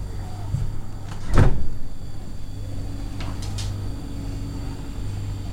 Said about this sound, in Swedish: När jag öppnar kylen hemma så är det väldigt tomt.